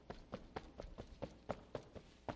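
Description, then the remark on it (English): A quick run of about ten heavy foot stamps thuds on a hard floor in a steady rhythm, each one a short dull impact with no voices. “I would have stomped my foot, I think.”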